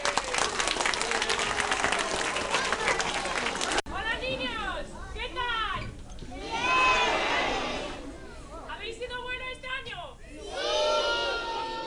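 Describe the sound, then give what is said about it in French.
A crowd bursts into loud, steady applause for about four seconds to welcome the Three Kings (rois mages) arriving at the CECI on Three Kings' Day, then the clapping gives way to excited shouts and overlapping voices rising and falling in pitch. “Donc on accueille les rois mages avec un fort applaudissement.”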